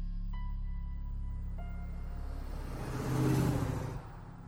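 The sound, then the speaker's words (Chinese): A car engine rumbles steadily, then revs louder and surges as if pulling away, easing off slightly at the end, as a woman drives her own car off toward the villa district at Beishan at night. No voices are heard. “然后出门开上自己的汽车，朝着阿川说的别墅区而来。”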